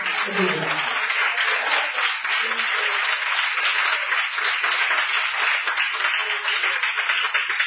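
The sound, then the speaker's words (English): A crowd claps hands together in a dense, steady wash of applause that stays loud and even throughout, with a few voices calling out underneath. “Clap your hands.”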